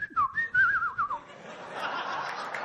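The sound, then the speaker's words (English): A warbling, birdlike whistle imitating the call of a long-tailed bird: a few quick rising and falling trills for about a second, fairly loud, then fading into soft breathy noise. “Butterflies, parrots, beautiful cuckoo birds, and what kind of some one special bird with long tail which whistles.”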